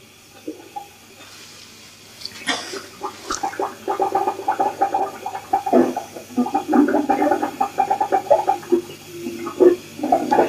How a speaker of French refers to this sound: Les égouts de la ville. Musique secrète des fermentations. Des égouts de la ville.